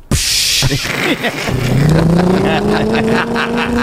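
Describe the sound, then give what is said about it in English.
A voice imitates a bus going by while jokes are being told: a breathy hiss, then a loud, steadily rising engine drone and whine like a vehicle accelerating, lasting several seconds. “the bus would go by. So you'd be doing your jokes and you'd hear like a.”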